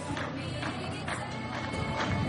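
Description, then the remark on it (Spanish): Street demonstration of immigrants heard in the background: a dense, steady crowd roar with regular rhythmic pulses, like chanting or drumming, continuing throughout with no single clear voice. “Eso es una manifestación, ¿no? Eso es una manifestación de ellos.”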